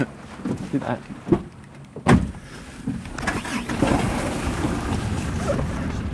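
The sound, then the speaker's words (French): A large fire truck engine rumbles low as people climb aboard. A heavy clunk lands about two seconds in, and the motor settles into a steady, droning idle that carries to the end. “OK, alors on monte dans le camion.”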